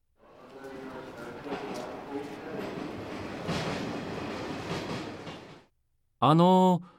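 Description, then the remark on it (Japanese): A train rumbles steadily into a station platform for several seconds, fading out, then a short, loud, tonal blast like a horn or whistle sounds. “この電車は甲子園へ行きますか？”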